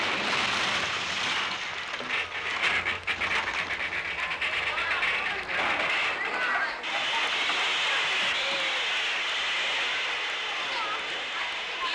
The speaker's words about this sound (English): I'll pull the cord up there, the emergency cord. That will put on the brakes and stop the train.